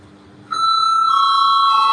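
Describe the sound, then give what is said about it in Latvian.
An electric voting bell in the Latvian parliament (Saeima) rings steadily and loudly after a brief quiet lead-in, calling a vote, a sustained bright buzzing tone that continues unbroken to the end, with faint room noise underneath. “Lūdzu, zvanu.”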